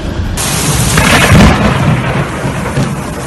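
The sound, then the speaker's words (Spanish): A loud, rolling rumble of thunder swells and peaks before settling back, over a dense, steady roar of heavy rain pouring down during strong storms in Las Navas del Marqués, with no voices. “Las Navas del Marqués ha sufrido el desbordamiento de un arroyo como consecuencia de las fuertes tormentas de ayer.”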